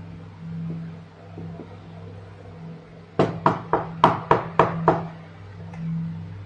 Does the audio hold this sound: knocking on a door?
yes